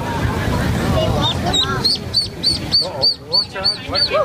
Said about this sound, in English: Yeah, those are ducks. They sound like chipmunks. Okay, you know what? You can say that, but they're ducks. Let me hear that again. Are you kidding me? Okay, so this is ducks. Duck.